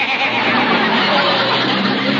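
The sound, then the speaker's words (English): A noisy old car engine sputters loudly and continuously, a rough, rattling, harsh drone that fills the whole moment with no one speaking. “Darn car would have to embarrass me at a time like this. My, my, what a noisy car.”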